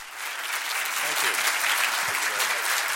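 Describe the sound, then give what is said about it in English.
Sustained, dense applause from a large crowd giving U.S. Secretary of State John Kerry a standing ovation at MIT's Sloan School of Management in Cambridge, a steady wash of clapping that holds at an even, loud level for the whole stretch, with faint murmurs of voices mixed in. “Senator John Kerry got a standing ovation from a receptive crowd at MIT's Sloan School of Management.”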